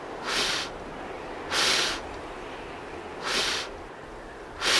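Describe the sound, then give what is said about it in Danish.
Four soft, breathy puffs of air blown out by a person at a steady pace, each a hissy whoosh lasting about half a second, with quiet pauses between. “Du må gerne puste.”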